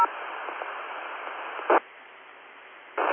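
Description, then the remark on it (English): A very noisy radio transmission into a repeater, about 90-95% noise, almost entirely hiss and static with little intelligible signal, carrying steadily for a few seconds with brief louder bursts of noise near the middle and end. “Okay, there's someone with about 90-95% noise.”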